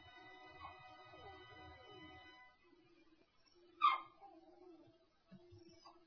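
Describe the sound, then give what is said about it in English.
A dog, frightened by a storm overhead, lets out one sharp bark midway through, with softer whining whimpers before and after it, all over a faint steady musical drone in the background. “That would be my dog, Buffy, if you can hear her.”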